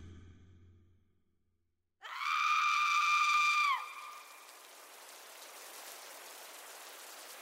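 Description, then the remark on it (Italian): Steady rain falling at night, 22:50, over a quiet street of small villas, with a soft, even hiss that starts after a quiet moment. A loud, high, sustained whistling tone rides over it for under two seconds, then the rain carries on alone. “d'improvviso, sente un grido rompere il mormorio della pioggia e il silenzio delle villette.”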